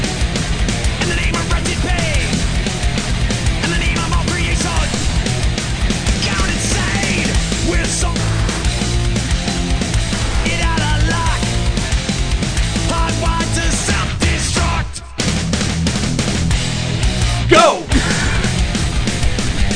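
An old-school thrash metal song plays loud and dense, with driving distorted guitars and drums, briefly cutting out twice near the end before slamming back in. No one talks over it.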